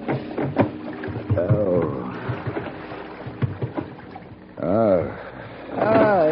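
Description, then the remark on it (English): A small boat creaks and groans as it rocks in dense fog, with water softly sloshing against the hull; the drawn-out wooden creaks rise and fall in slow, uneven swells. “The rocking movement of the small boat didn't help the dull, throbbing pain in my head.”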